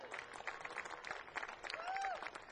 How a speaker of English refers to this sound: Please, everybody, give a warm round of applause to all the sound crews and the stagehands and everybody that are making this happen.